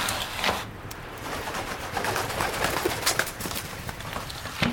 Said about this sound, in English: My lady wife, why do you insist on keeping that filthy bird? He is not filthy. He is wise and loyal. Is that not true, Albrecht?